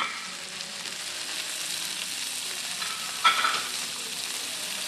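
Kutera salmon sizzles steadily as it is pan seared in a hot pan, a continuous bright crackling hiss with a brief sharper pop of spattering near the end. No one speaks.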